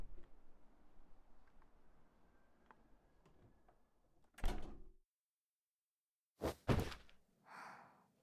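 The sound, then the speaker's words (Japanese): A door opens with a sharp mechanical thunk, followed a moment later by two heavy clunks and a soft whooshing slide, fairly loud over a faint background hum. “ドアが開きます。”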